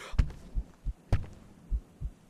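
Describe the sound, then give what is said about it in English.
A woman's heavy heartbeat: deep, muffled low thuds in roughly paired beats, about six in just over two seconds, with no voices over them. “I hear that heavy and horrible beating of her heart.”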